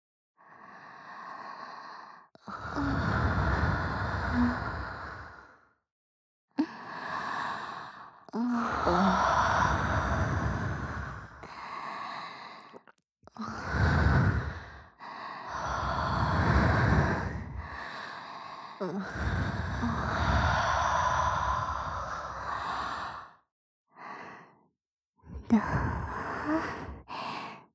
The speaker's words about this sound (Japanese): 生温かい吐息吹きかけられるの好き。なんだか興奮しちゃうね。